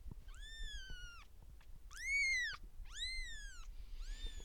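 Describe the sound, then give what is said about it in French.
High-pitched kitten meows in a bedroom, about four thin, drawn-out mews in a row, fairly clear over a quiet, low background rumble. “On enregistre dans ma chambre, c'est pas uniquement parce que la chambre est loin de la rue, c'est aussi parce que c'est là où il y a les chatons.”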